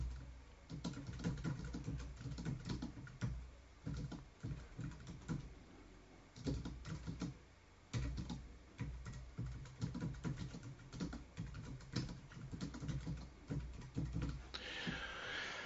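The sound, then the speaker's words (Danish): Steady, rapid clicking of keys on a computer keyboard, fairly quiet, as someone types a short reflection into a form, continuing in bursts with brief pauses for about fifteen seconds, no voices. “Det skal jeg nok komme til, altså skrive noget her, så kan vi bagefter se, hvad det går på.”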